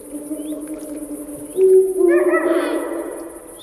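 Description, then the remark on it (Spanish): Eurasian eagle-owl calls at the Portilla del Tiétar in Monfragüe, between two huge rocky cliffs that make the sound reverberate: a low, sustained hooting tone that swells around the midpoint, joined by harsher, bark-like notes, with no voices. “El búho real, el gran duque, domina la puesta en escena.”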